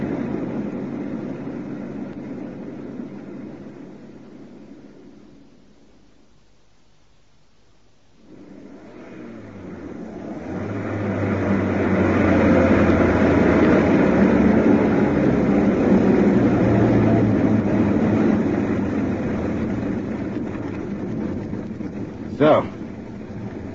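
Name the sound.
car engine running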